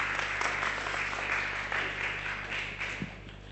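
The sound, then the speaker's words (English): An audience applauds steadily, a dense patter of many hands clapping at once, holding a fairly even level for several seconds with a low hum underneath and no voices. “Give them a clap.”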